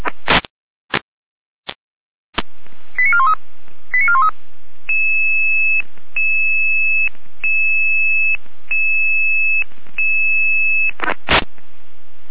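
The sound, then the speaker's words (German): A radio pager alert tone sequence alerting fire brigade units to an oil spill: a few sharp squelch bursts, a rapid run of short electronic beeps, then a long steady two-pitch tone repeated in pulses, ending with static crackle. “Jeder mit Alarmierung.”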